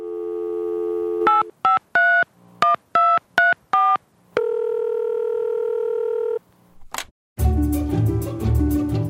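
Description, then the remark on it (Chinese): A steady dial tone gives way to about seven quick telephone keypad beeps in an uneven rhythm, then a longer held tone, a click, and a loud burst of music. No one speaks. “那我们现在就先来听听我们听众的电话吧。”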